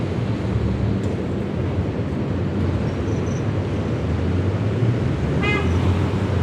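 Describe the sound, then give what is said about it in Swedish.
Steady, loud traffic rumble fills the scene, with a faint high call and then a short, sharp trill from a kingfisher rising above the roar near the end. No one speaks. “Måste vara den som har de här ljusa trulätena som faktiskt hörs trots trafiken.”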